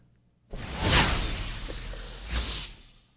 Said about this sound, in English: I believe that deserves a whoosh.